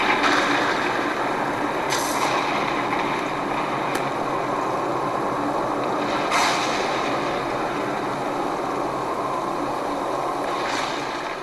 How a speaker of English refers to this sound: One night, there was a terrible storm. There was thunder and lightning, and the rain poured down in torrents.